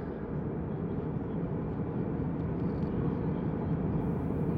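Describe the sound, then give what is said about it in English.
A steady, low roaring drone fills the space evenly, the muffled constant rumble of an airplane cabin in flight, with no voices and no change in level throughout. “I stood in the aisle of the plane, staring at the phone screen as it chirped and vibrated in my hand.”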